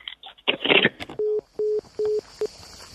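A quick rustle of telephone dialing gives way to a steady series of short, evenly spaced ringing beeps on the line, clear, with no one speaking, as a call is placed to the Ministry of Environment and Energy Security.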